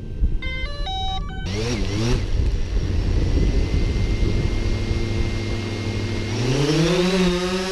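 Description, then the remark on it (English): A short run of electronic beeps, then a remote control drone's high, wasp-like buzzing whine, loud, its pitch sliding down and then climbing steeply near the end. “They can sound like an angry wasp and are a popular toy for kids and enthusiasts alike.”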